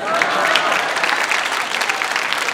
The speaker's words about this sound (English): Oh well, I got a clap, so it can't be that bad.